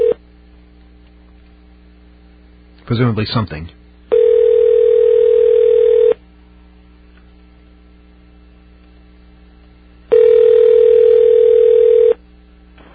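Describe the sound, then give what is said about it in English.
A telephone ringback tone sounds twice as a call is placed to someone in Philadelphia on election day, each steady ring lasting about two seconds with a long pause between, over a constant low electrical hum. A voice speaks briefly just before the first ring. “let's make our next phone call.”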